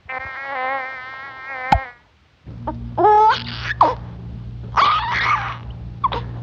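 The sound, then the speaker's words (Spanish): A bee in a hospital buzzes loudly for almost two seconds, its drone wavering in pitch, then cuts off with a sharp snap as it shoots away, sent off by a girl's loud burst of laughter. Short, bark-like bursts follow over a low steady hum. “Pues sí, fue tan fuerte la carcajada que dio la niña que la abeja salió disparada.”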